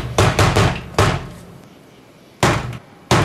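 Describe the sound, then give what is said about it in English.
Loud, heavy knocks on a door in a deliberate pattern: three quick raps and a single blow, a pause, then two more raps and a final thud. This is the infamous signature knock of the character Negan. No voices. “It's the infamous yep. Negan knock. So you know who's coming.”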